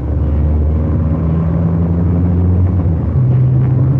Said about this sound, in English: Listen to that engine.